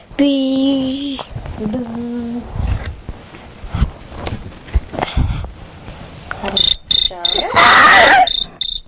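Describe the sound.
A cricket chirps loudly in rapid, rhythmic bursts of shrill trilling, following a stretch of scattered household noises and faint voices.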